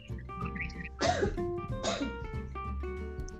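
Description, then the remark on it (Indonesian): Two sharp coughs about a second apart, each a short harsh burst, set against soft steady background music with no talking. “Batuk kan lu, kesimpratan.”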